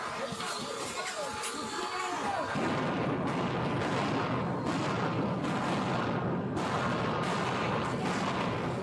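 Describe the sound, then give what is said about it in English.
Flashbang grenades deployed by New York police clearing protesters from a Columbia University campus building, heard on body cam footage, go off in a series of sharp, booming blasts over a dense roar of noise, several bursts a second or so apart, following a few seconds of shouting voices. “Those were flashbangs.”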